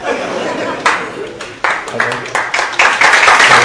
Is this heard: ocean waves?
no